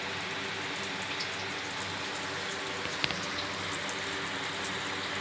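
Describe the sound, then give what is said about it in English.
Steady hiss of running shower water fills the whole stretch, a dense, even spray with a brief sharper splash near the middle and no voices. “I haven't done a I'm in the shower video for a long time, but it's been really fucking hot, you know.”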